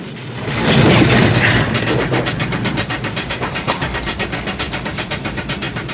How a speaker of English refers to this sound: An upturned car wreck blocks their path. Headlights on full, the taxi drives up a ramp and sails over the wreck, landing with a bump.